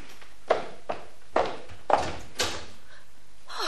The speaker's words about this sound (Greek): Μη βγαίνεις, κάποιος χτυπάει στην πόρτα.